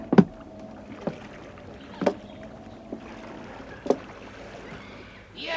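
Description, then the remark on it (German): Wooden knocks and thumps against rowing boats on water as men climb into them, several irregular bumps spaced about a second apart, with a faint watery background and no voices. “Die Männer kletterten in die Boote.”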